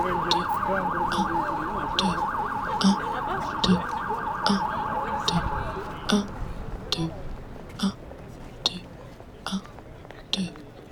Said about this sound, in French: La sirène de voiture de police venue nous accompagner marque le départ.